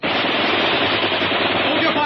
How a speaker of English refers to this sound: I want them to come pouring out. I want them to wonder whether they've heard a machine gun or not. Now, don't go on firing or they'll be sure.